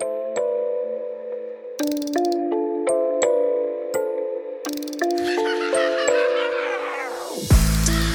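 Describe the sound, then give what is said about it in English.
A train's steam whistle blows a long, steady chord that shifts pitch in several steps, with bursts of hiss along the way, then cuts off into a loud rush of escaping steam. “I was wondering when the train would come make an appearance.”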